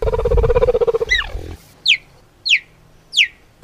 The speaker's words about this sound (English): It's a bird. It is not a bird. It's actually a cheetah. That's a cheetah. Get out. Oh, my gosh. Yeah, that's true. Yeah, because I think cheetahs make funny noises, like cheap as well.